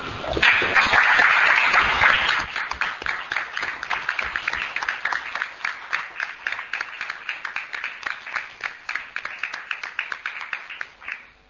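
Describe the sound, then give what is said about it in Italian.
An audience at a meeting applauds in memory of a woman who has died, in place of a minute of silence, starting as a dense burst of many hands clapping, then thinning into a steadier rhythm of individual claps that gradually fades out. “Vorrei ricordarla con un minuto di silenzio, non con un minuto di silenzio, ma con un applauso, perché non era nel suo carattere commiserarsi o farsi commiserare.”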